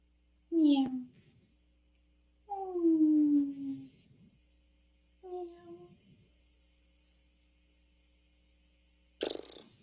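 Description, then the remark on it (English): Someone imitates a cat coughing up a hairball with three drawn-out, gurgly, descending vocal bursts separated by pauses, then a short sharp burst at the end, fairly loud. “No, but can I just make that like purry sound? I don't know. It's like a fur ball.”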